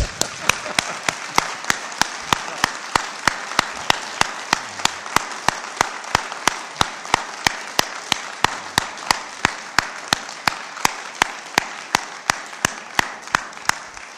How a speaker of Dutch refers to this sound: Eerst applaus dan, hè? Oh ja, ja.